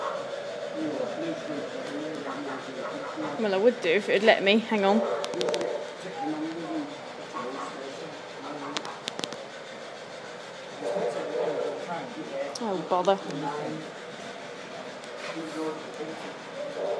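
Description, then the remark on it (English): A train rumbles steadily along the rails throughout, a continuous mid-level hiss and rattle, while a person talks over it with a few short exclamations. “The train coming.”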